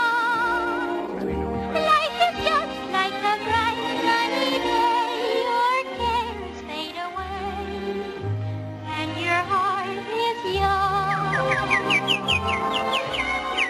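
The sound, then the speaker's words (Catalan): Bright bird chirps and tweets flutter over a lively orchestral melody, with quick rising twitters near the end, all clear; Snow White with the birds in the 1937 animated film Snow White and the Seven Dwarfs. “I la Blancaneu amb els ocells del mas es rius, per molt què?”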